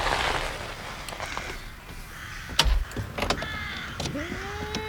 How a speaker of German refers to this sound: Da kommt ein Auto. Ein alter Pickup. Fast wie der von deinem Onkel. Ja, das ist bestimmt ein Kunde.